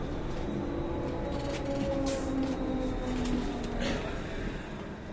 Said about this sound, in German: So, jetzt hat der Bus gehalten